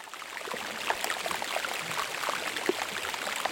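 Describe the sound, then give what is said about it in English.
A dense, steady crackle of tiny bubbles popping from melting glacier ice, a constant fizzing hiss dotted with sharper clicks and little pops, no voices present. “You're actually listening to tiny air bubbles burst out of glacier ice as it melts.”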